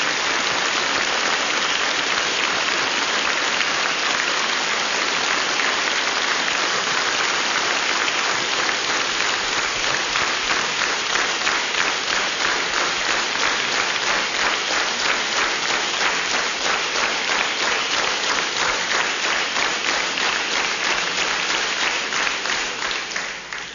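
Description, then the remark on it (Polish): Sustained audience applause for the regional ensemble Estrada Regionalna Równica, before its program marking 700 years of Ustroń: a dense, steady patter of many hands clapping at an even loudness for over twenty seconds, with a brief rhythmic swell toward the end before it tapers off. “Brawa dla nich i zapraszamy na program.”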